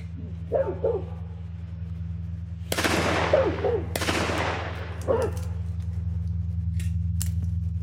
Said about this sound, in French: Et cette ouverture-là, elle est constituée de détonations, d'aboiements.